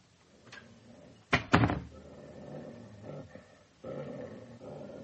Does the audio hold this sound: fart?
no